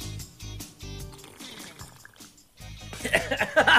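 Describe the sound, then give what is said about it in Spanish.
Wet slurping and gulping of water, a few short rhythmic sips followed by a louder burst of noisy sucking near the end, with faint background voice. “¿Cómo así el sorbeteo del agua, hombre?”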